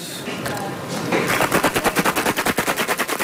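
Ice rattles hard inside a metal shaker tin holding brandy, orange liqueur, almond syrup and orange and Chinese bitters, starting as a dense noisy churn and settling into fast, even, loud rhythmic shakes, roughly five per second, about 40 shakes in all.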